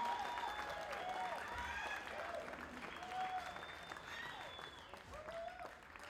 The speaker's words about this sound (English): Come on, give him a big, big, huge applause.